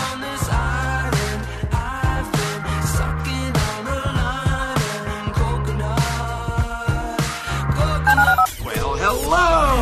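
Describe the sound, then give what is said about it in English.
Loud telephone keypad dialing tones beep in a quick rhythmic sequence over a dense musical backing, ending with a brief warbling sweep in the last second, as a phone is dialed to call into the HR&P listener line. “Dial the phone.”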